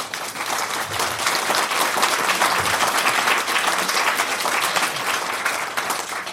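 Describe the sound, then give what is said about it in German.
An audience applauds the event's sponsors steadily for about six seconds, a dense, even wash of many hands clapping at sustained loudness, with no voices rising above it. “Die Unterstützung durch die Sponsoren sollte uns allen einen Applaus wert sein.”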